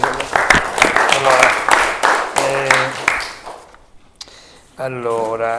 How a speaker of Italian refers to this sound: Complimenti, siamo felici, applaudiamo.